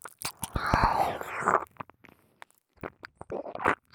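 Close, intimate chewing and biting: wet, crunchy mouth noises in uneven bursts, loudest at the start, then a brief near-silent pause before more smacking chews resume.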